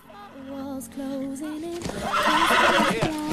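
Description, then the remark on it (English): A horse, Flicka, whinnies loudly, a long wavering neigh, as she is loaded onto a horse truck under grey thunderclouds, then a burst of clattering, scuffling commotion swells up around it before the sound cuts off. “She puts the basket down and walks towards the window and sees Jack and Gus load Flicka onto a horse truck.”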